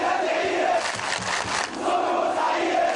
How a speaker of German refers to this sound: Nicht länger als 2 Minuten brauchte der vorsitzende Richter dann, um das Urteil zu verkünden und die Namen der 21 zum Tode verurteilten Angeklagten zu verlesen. Familienangehörige der Opfer brachen im Gerichtssaal in Jubel aus.